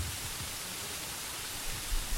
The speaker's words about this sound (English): You're going to have to speak pretty loudly. The rain's pretty loud.